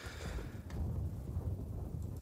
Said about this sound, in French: Wow! Hey! Avez-vous entendu? Il y avait un coup de tonnerre.